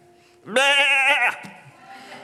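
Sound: sheep bleating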